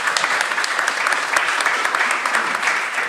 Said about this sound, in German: Kann ich jetzt natürlich irgendwie ganz stolz verkünden, sind davon Platz 98 auf 21 gestiegen. Ja, das ist ja wohl ein Applaus wert an der Stelle.